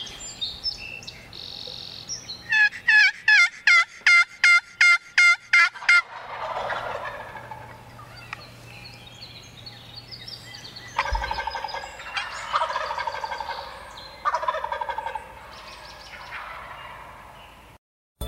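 turkeys gobbling

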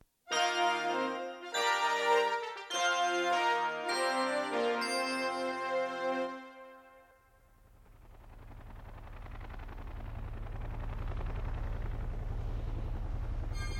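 helicopter hovering

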